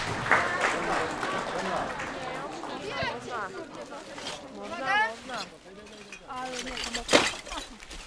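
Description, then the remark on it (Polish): A group claps for everyone who turned up before packets are handed out and they set off on a group action: a steady, crackling burst of applause while several voices talk and call out over it, holding fairly even with one sharper louder moment near the end. “Brawo dla wszystkich, którzy się pojawili.”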